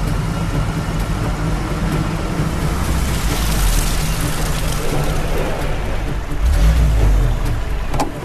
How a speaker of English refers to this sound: And the boat's almost here already. Come on, we have to hurry, or it's going over the waterfall with the Major and the payload on board.